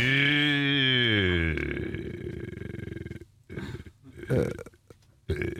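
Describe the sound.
A voice imitates a dying fly lying on its back on a windowsill: a loud, wavering, low buzzy drone that sinks in pitch, turns into a rough rattling rasp, then breaks into short sputtering bursts with brief gaps.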